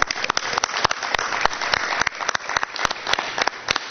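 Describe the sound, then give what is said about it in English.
A crowd applauds an FFA advisor who won the honorary FFA American degree, many hands clapping in a dense, continuous patter with sharper individual claps standing out throughout, fairly loud and with no talking. “So a round of applause for her.”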